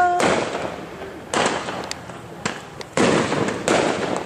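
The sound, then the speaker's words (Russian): Several separate single firework rockets, set off by people on all sides near an ocean shore, burst at irregular intervals, each a sharp crack trailing off into a rolling rumble, with no one speaking. “Со всех сторон какие-то ракеты одиночные. Народ пуляет.”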